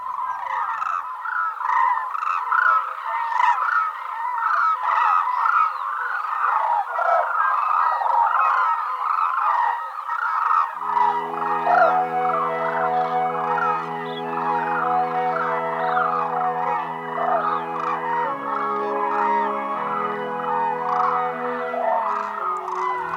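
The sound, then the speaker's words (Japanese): A large flock of hooded cranes calls nonstop, with loud, overlapping honking cries. About halfway through, steady low sustained tones rise beneath the calls. No one speaks. “朝の小鳥、今朝は万葉集からナベズルをお送りしました。”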